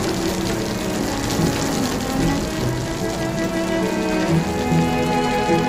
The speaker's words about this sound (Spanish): ¡Busca refugio! Replicó la nube oscura sin dejar de agua arrojar.